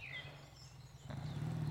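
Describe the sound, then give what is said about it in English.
Faint birds chirp in a few short calls on a sunny day over a steady low hum, and a louder rumbling of motorcycles swells in partway through. “The birds are chirping.”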